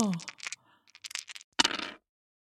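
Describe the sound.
Four dice are rolled for a tabletop game, clattering and rattling across a hard tabletop in quick bursts, ending with a sharp, loud tumble before settling on a three, a two, a one and a one; a brief voice sound comes at the very start.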